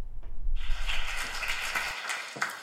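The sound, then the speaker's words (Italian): An audience applauding, a steady wash of many hands clapping that starts abruptly and continues at an even, moderate level before tapering slightly toward the end. “A seguire, dopo gli applausi, proponiamo le risposte alle numerose domande poste dalla platea.”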